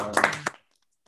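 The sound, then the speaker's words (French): A brief burst of applause thanking someone for finished work: a few hands clapping in quick, uneven claps that stop abruptly after about half a second, leaving silence. “Et puis, même si tu n'aimes pas beaucoup les applaudissements, je sais que tu tiens pas toujours.”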